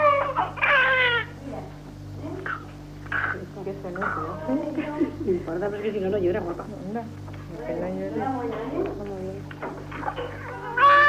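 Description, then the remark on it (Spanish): A newborn baby gives its first cry just after birth, while being cleaned, in a series of short, thin, high wails, fairly loud, with adult voices murmuring faintly in the background over a steady low hum. “Y aquí está su primer llanto.”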